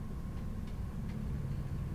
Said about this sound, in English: He presses the very top button, and the elevator clanks and whirs for more than a minute.